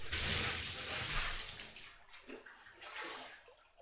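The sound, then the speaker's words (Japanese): Hot water is poured out in a loud, broad splashing gush to rinse soap foam off a body, then tapers into softer trickles and a few gentler pours as the flow eases off. “では、お湯で泡、お流ししますね。”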